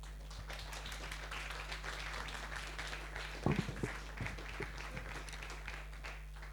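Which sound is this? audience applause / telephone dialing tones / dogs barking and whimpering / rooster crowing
audience applause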